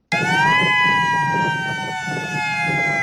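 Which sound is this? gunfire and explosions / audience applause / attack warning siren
attack warning siren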